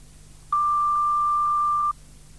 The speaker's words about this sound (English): Please phone back between business hours. That's 9 to 5.30, Monday to Saturday, or leave a message after the tone.